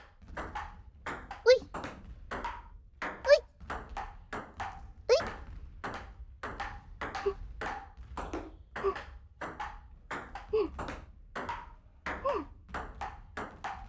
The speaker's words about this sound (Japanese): いい音だね。ピンポンピンポン。